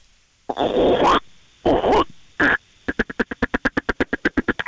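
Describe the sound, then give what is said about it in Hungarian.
A contestant in a frog-imitation contest imitates a frog using only the mouth: three loud, raspy croaks, then a quick, even train of about fifteen short, clipped croaking pulses. “Oké, okay, jöhet, még köszönje békaként, léci.”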